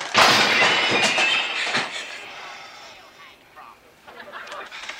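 A ringing phone is hurled across the room and smashes with a loud, bright crash and shattering clatter that rings out for a couple of seconds, then fades to faint scattered rattles and low murmuring.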